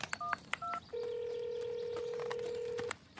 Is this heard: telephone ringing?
yes